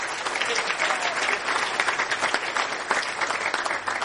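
Steady applause from an audience, a dense, continuous patter of many hands clapping at an even loudness for about four seconds, with no voices standing out.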